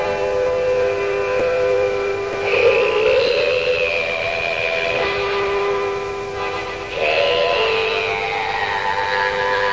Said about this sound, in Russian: Он играет на аккордеоне вступление.